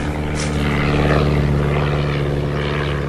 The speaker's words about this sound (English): An aeroplane, swooping like a dancer. Flying over the countryside.